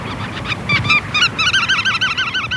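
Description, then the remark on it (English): Bar-tailed godwit calls: a few scattered nasal, honking notes give way to a dense, rapid chatter of overlapping calls from a flock, fairly loud, with no one speaking. “Right now, a bar-tailed godwit is out over the Pacific Ocean making an 8-day non-stop flight from Alaska to New Zealand, more than 7,000 miles.”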